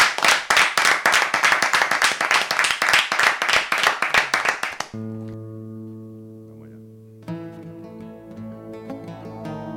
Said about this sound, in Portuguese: Un forte aplauso